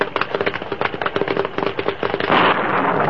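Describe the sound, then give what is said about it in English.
A lightning bolt strikes the top of a pine tree by the bank of Boulder Creek during a storm, splitting the trunk, with a rapid barrage of loud, sharp crackles and snaps like splintering wood, ending in a sustained rushing hiss. No one speaks. “Suddenly, a bolt of lightning hit the top of a pine tree near the creek's bank.”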